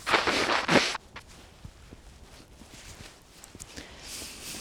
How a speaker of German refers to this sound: Und ich muss mal meine Nase putzen, weil der Wind hier mich schnaufen lässt.